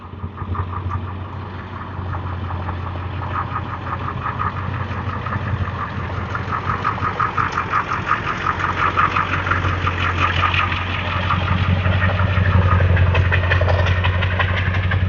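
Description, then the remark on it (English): A heavy truck engine idles beside a street with a steady, deep grumbling rumble and a rattling upper texture, holding constant and growing slightly louder throughout, with no talking. “I'm walking and not talking because I'm coming up on a heavy truck that's just sitting here grumbling beside the street.”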